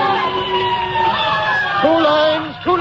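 Loud fire engine sirens wail, several overlapping tones sliding up and down continuously, with a steady blaring note beneath as the trucks race through city streets.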